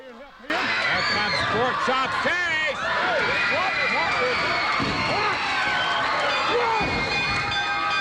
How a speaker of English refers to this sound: Crowd chanting, "We want Lawler."